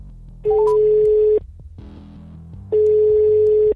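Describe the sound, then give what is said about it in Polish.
Two long, steady telephone ringback tones from an outgoing call to a kickboxing coach, each about a second long, separated by a pause, heard clearly with a faint low hum underneath and no talking. “Ja już telefon wybrałem. Dzwonimy.”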